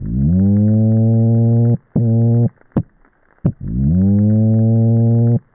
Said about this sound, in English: And at first, people were quite worried. And after some extensive investigation, they determined that, in fact, it was the kind of toadfish that hums very, very loudly for a mate. And they do this every spring en masse.